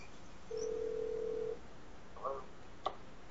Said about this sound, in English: I don't know if you folks can hear the phone ringing there, but